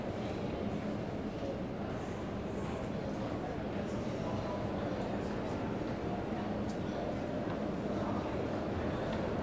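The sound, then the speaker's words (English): A steady, loud rumbling roar of a Brooklyn-bound subway train arriving on the local track at a station platform, continuous and unbroken for the whole stretch, with faint indistinct voices mixed into the din. “The next Brooklyn bound train is now arriving on the local track.”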